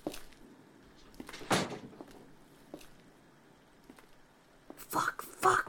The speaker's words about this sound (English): Quick, close my bedroom door!